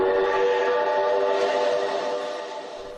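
A train whistle blows one long, steady, multi-toned note that fills the whole moment, loud, easing off slightly at the end, at a ceremony on the stage of the National Theatre in Prague, which was set up as a train station. No voices are present.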